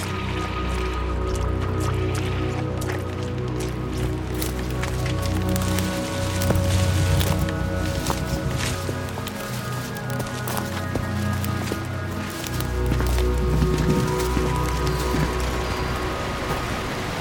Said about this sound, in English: I knew it! I told you I heard something! A waterfall. It's very picturesque.